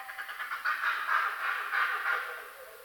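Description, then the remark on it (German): Monkeys give a run of rapid, clucking calls that sound much like chickens, repeated pulses of mid-to-high chatter rising and falling over a faint hissy background, with no talking. “Also man denkt nicht unbedingt an Affen, wenn man sich das anhört.”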